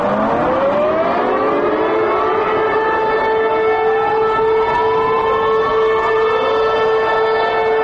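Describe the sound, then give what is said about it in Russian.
Several air-raid sirens wail together in Warsaw, Poland, at 8:56 in memorial, one week after the Polish president's plane crashed, in a sustained, loud chorus, their overlapping tones slowly rising and gliding against one another, with no voices and a steady rumble of background noise. “Докладно о 8.56, у часі, коли тиждень тому розбився самоліт президента Польщі, во всій країні загучали сирени і дзвони бажніцев.”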